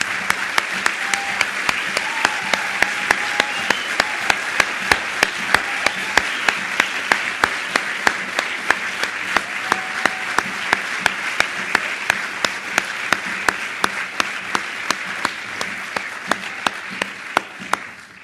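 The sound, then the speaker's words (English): On a Sunday morning, an audience applauds the veterans standing among them, steadily for about eighteen seconds, a dense wash of many hands clapping with sharp individual claps standing out, holding strong before easing slightly at the end. “We want to give you a round of applause.”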